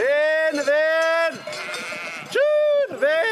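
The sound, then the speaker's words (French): Several sheep bleat loudly, overlapping calls with wavering, nasal tones, separated by a brief noisier stretch of flock sounds, as a flock of 353 ewes is counted and sets off on a transhumance of about ten kilometres to the alpine pastures of the Joue du Loup sector. “ces brebis sont comptées et prennent la direction des alpages du secteur de la Joue du Loup”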